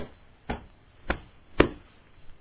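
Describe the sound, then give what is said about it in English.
Three sharp, evenly spaced slaps of palms against arms, each a crisp, punchy smack over a faint background hiss, with no talking. “He slapped his arms with his palms. How do you do that? Like this.”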